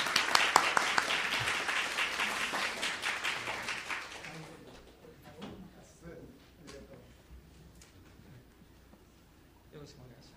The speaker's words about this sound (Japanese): それではできるだけ時間を渡したいと思いますので、大きな拍手で講談の方をお迎えしたいと思います。